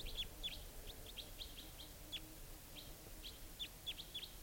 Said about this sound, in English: And here comes the type 2. And the type 4 bird joined it. The type 2 bird, now the two are together up in the top of the same large tree.